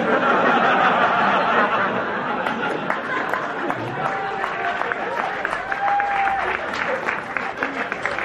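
A crowd claps steadily and densely throughout, a broad wash of applause mixed with scattered chatter and a few light chuckles.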